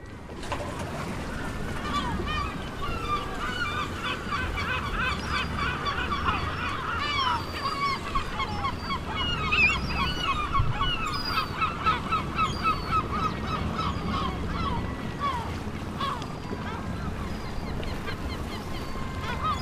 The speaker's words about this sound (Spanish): Hay un motor ahí sonando. Claro, ¿no? Es el puerto de Malpica, están los gaviotas y los barcos que llegan de faenar toda la noche.